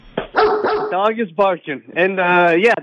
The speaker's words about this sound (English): The dog is barking.